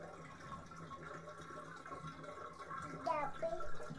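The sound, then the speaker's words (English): Bathtub water draining down the drain as a parent lets all the water out of the tub: a steady rushing wash that swells slightly toward the end, with a few quick gurgles near the finish and faint voices in the background. “It's going down the drain. Pretty soon there'll be no water left. You'll be standing in an empty tub.”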